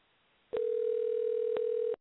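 A telephone dial tone as a phone call is placed during the IWFFA radio show starts abruptly after a short quiet moment and holds steady at a low, even pitch for about a second and a half, with faint clicks at its start and end.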